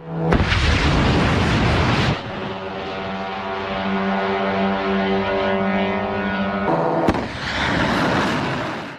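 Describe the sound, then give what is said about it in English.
Iranian army drones launching: a loud roaring rush of rocket thrust gives way to a steady, buzzing engine drone with a strong humming pitch, then another sharp blast and roar near the end. “These are Iranian army drones launching, used all over the Gulf to target bases.”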